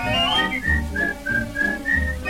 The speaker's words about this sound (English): Put on that grin and start right in to whistle loud and long.